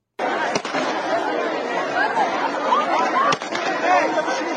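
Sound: crowd screaming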